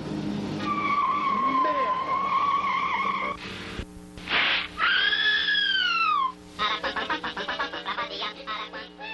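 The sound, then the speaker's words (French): Car tires screech loudly as a car peels away and drives off, with long sustained squeals, a sharp swooping skid midway, and a quick stuttering squeal at the end, intense. “Ma voiture.”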